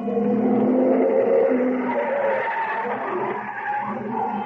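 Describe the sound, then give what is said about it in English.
A car speeds past on a street, driving by fast with its door open, with a loud, rushing engine roar and a screech of tires, its pitch shifting as it goes by, then easing slightly toward the end. No one speaks. “I started across the street to catch another cab, and I was halfway there when I heard the car.”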